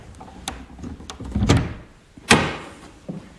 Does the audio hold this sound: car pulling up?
no